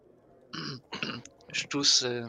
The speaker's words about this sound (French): Je tousse et j'attends. C'est pour essayer de la faire revenir à la réalité.